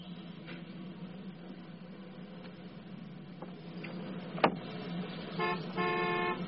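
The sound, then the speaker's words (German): Steady hum of street traffic in Germany with cars passing, a sharp knock midway, then car horns honking near the end: a short toot followed by a longer, louder blast. “Ja, auch in Deutschland ist Parken ein Problem.”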